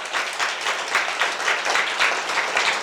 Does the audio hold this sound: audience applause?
yes